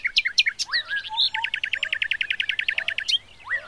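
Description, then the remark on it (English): Several birds sing together, a rapid, steady trill of high chirps running through the middle while other birds add rising whistles and quick tweets around it. No voices. “The song elevated and rose up to the clouds with Little Bird's voice in the lead.”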